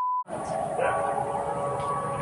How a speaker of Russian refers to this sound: Сирена, слышь, заорал.